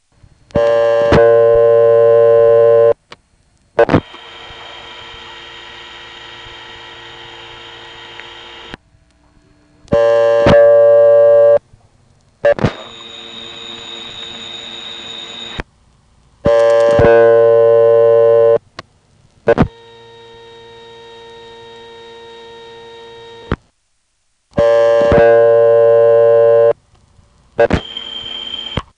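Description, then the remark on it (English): A series of short telephone line recordings after dialing 7, each a few seconds long and cut off abruptly, filled with steady electrical hum and buzzing carrier noise; most are harsher ones with white noise and power supply hums, while the third is a reasonably quiet type. “In fact, to give you an idea of just how much the carrier noise can vary when you dial 7, here are a number of calls where we just dial 7, listen to the carrier noise for a second, and hang up.”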